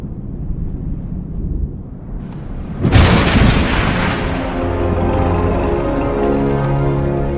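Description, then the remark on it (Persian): A low rumble builds, then a sudden loud crack of thunder bursts out and rolls away slowly, while steady sustained tones rise beneath the fading storm, one of the storms marking the end of the hot, dry season. “این طوفان ها نشانه پایان فصل خشک و گرم هستند.”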